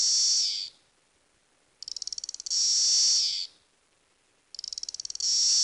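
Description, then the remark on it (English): Loud, high-pitched buzzing rises in repeated waves, each opening with a rapid pulsing rattle that swells into a steady drone, then fades. A periodical cicada chorus in a city park, with no voices. “We're surrounded by the noise of cicadas, and we can see them everywhere.”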